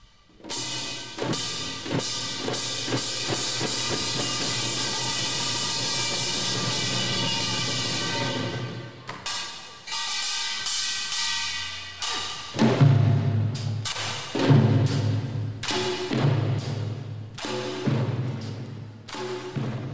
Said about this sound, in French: ça, c'est ce qu'on appelle le nonggak en coréen, qui est une des formes de musique coréenne où la percussion est véritablement au centre